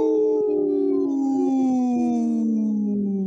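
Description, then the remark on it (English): People howl together in imitation of wolves: one long, loud, sustained wail that slowly slides downward in pitch over about three seconds, with no talking. “And we're, you know, we just howled”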